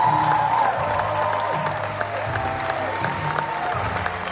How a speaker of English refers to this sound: Not for me or even for you. That applause belongs to The Smashing Machine, starring Dwayne The Rock Johnson, about the MMA fighter Mark Kerr at the peak of his career.